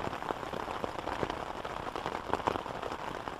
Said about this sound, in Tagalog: Nagpark siya sa parking space na nasa likod ng kondo at nagmamadaling pinuksan ng payong dahil malakas pa rin ang ulan.